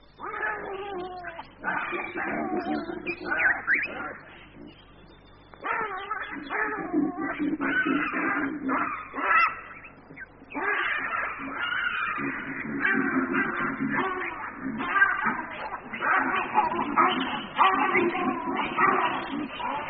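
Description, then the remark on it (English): A troop of baboons calls almost nonstop, deep booming barks of authority mixed with shrill squeals of pain, loud, with only a brief lull partway through. “Baboons, for instance, must obey the booming voice of authority. And if that voice is ignored, retribution and squeals of pain follow.”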